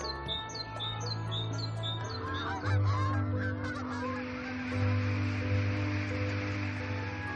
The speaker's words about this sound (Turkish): Uzun mesafe yolcuları, kuşlar.